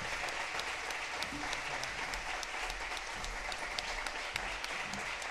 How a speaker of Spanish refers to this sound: Por favor, fuerte aplauso.